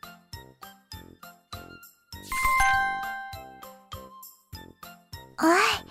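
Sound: page-turn chime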